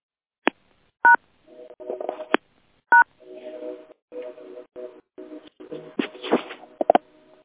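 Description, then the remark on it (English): Short telephone keypad touch-tones beep a few times with pauses between them as someone tries to unmute the phone lines, mixed with choppy electronic warbling and static-like bursts, clear, with no talking. “Take a deep breath in as I unmute the phones for our mornings, affirmations, and Buddhist meditations.”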